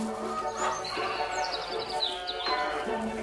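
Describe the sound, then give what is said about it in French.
Small Ouessant sheep, an old breed, bleat on a farm in a wavering, nasal chorus, several calls overlapping, with faint bird chirps in the background. “C'est des petits moutons d'Ouessant, c'est ça? Des petits moutons d'Ouessant, oui.”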